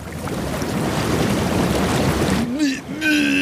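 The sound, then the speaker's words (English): Steady, churning rush of bubbling water from hot tub jets, loud, running continuously before a voice briefly breaks in near the end. “The jets are on. It's the bubbles. Hot bubbles.”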